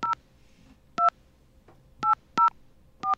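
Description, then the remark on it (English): Touch-tone phone dialing of a 202 number for a PPP and whistleblower line: five short, clear keypad beeps pressed at an uneven pace, with a faint low hum underneath and no talking. “We have a dial tone here. Should I call the 202 number or the 800 number?”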